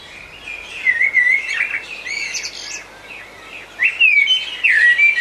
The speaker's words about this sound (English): And you know, we've had many blackbird recordings hitting the off-track inbox. This one is from Bill McCaskill, and it has two introduced birds in it, the blackbirds and Indian miners.